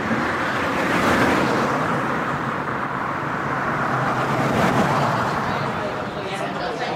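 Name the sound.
car driving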